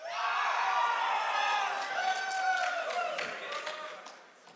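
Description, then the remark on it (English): A small group, the cheering section for a quiz contestant, cheers and whoops loudly, a blend of high excited voices and shouts sustained for a few seconds before trailing off slightly at the end. “Who clearly has a cheering section.”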